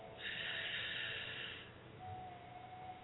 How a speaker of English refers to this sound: Just relax and breathe. Take those deep, deep breaths in. And release. One more time in.